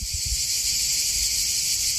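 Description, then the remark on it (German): A dense, continuous buzz of cicadas in knee-high summer meadows in Albania, a steady high-pitched shimmer with no breaks, alongside a faint low rumble underneath. No one speaks. “Andererseits, so Sommer in Albanien, das hat schon auch was mit flirrender Luft und Zikaden, die in kniehohen Sommerwiesen zirpen. Ich habe das sogar aufgenommen, hör mal.”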